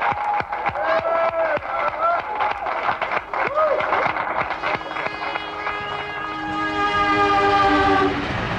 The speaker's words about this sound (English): The Union Station in Washington, D.C. The Freedom Train has just arrived this moment, and the passengers are about to disembark, and here they are!